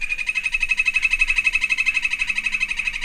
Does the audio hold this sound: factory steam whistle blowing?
no